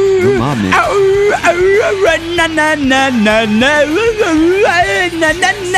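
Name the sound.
person imitating a howl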